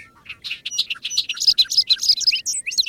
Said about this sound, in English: It's early May. We're standing in a large hayfield in western New York State, where bobolinks are returning to nest. The males are first to arrive.